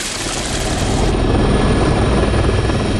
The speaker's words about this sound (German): Und das ist einer der Höhepunkte unseres La Réunion-Besuches. Ein Helikopterrundflug durch die malerischen Talkessel Mafat, Silaos und Salazie im Inselinnern. Das war hochgradig beeindruckend, um nicht zu sagen überwältigend.